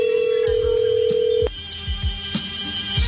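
A steady electronic tone from a Google phone holds for about a second and a half, then cuts off, followed by a few softer chirps and beeps over a busy low background.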